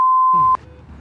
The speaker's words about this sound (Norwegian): Hallo? Mr. Better Flow svarer ikke på calling-anlegget.